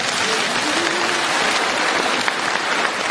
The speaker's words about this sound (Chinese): 鼓掌